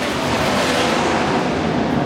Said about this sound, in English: Did you fucking hear that? Did you fucking hear that? I was in my kitchen. I was away from the window. Did you hear that fucking jet fighter bullshit? My God.